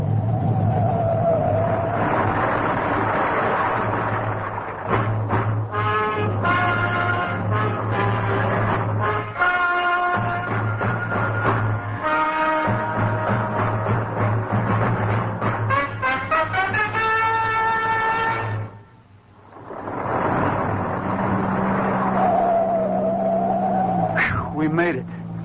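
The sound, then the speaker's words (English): A car engine roars and drones loudly as the vehicle speeds off to get past an avalanche of falling snow, with tires repeatedly squealing and skidding in high, wavering whines; the noise drops out briefly before surging back. “Step on it, Pat. Maybe we can get through.”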